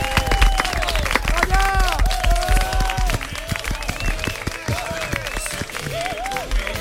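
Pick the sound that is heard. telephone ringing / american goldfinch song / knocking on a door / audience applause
audience applause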